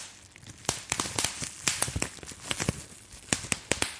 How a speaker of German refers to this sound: Na, wahrscheinlich durch das ganze Knistern erkannt. Und zwar war das Luftpolsterfolie. Kennen wir ja wahrscheinlich alle. Sobald man Luftpolsterfolie in der Hand hat, muss man diese Bläschen zerdrücken.